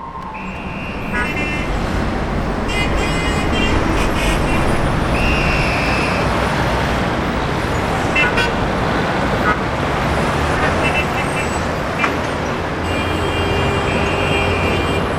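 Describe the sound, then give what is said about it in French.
Dense road traffic rumbles steadily at a motorway footbridge, with cars rushing past in a continuous wash of engine and tire noise, punctuated by a few short horn toots. “À la passerelle d'autoroute, sur la droite, attention aux voitures quand même, surtout à l'heure de la sortie des classes.”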